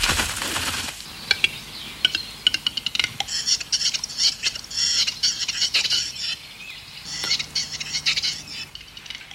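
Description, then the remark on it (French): A western capercaillie's (great grouse, the largest forest bird in Europe) display call: a run of dry, knocking clicks followed by a soft pop like a bottle being uncorked, then raspy, wheezing scraping phrases, in a quiet forest, with no talking. “C'est typique de la parade de l'oiseau forêt. J'ai nommé le grand tétras, plus gros oiseau forestier en Europe.”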